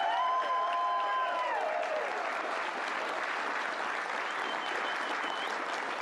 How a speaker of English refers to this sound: By the way, can we give President Trump a round of applause? That man loves America, and he loves Louisiana. He came down here three times specifically to try to help us. Please give him another round of applause.